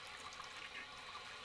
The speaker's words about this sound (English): There it is. That's... Wow, this is an insanely long flush.